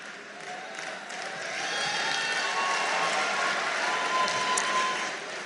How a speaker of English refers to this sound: You better listen before you start clapping.